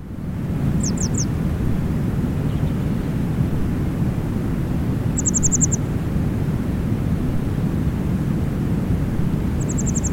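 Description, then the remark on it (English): A grey wagtail gives sharp, high two-syllable calls in three brief bursts of quick clipped notes, heard over a steady, loud rushing noise that fills the low end throughout. “That's quite a distinctive one, actually, this two-syllable call that they have.”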